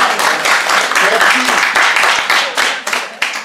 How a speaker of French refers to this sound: Merci mon frère, nous l'applaudissons.